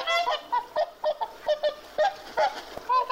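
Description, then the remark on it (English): A voice imitates an angry swan, the guard swan of St. Hugh of Lincoln honking at anyone who came near, letting out a rapid run of about a dozen short, nasal, harmonic honks in an uneven, agitated rhythm, fairly loud and with no other talk. “The swan would honk at anyone who came near Hugh of Lincoln, using phrases such as,”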